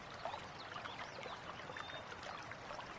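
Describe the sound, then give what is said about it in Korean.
Water trickles and babbles steadily along a small village stream where women draw water, a soft continuous flow with light bubbling gurgles throughout, fairly quiet and with no voices. “개울가에서는 아낙네들이 물을 깃다 말고 모여앉아 참새떼처럼 재잘거리고 있다가”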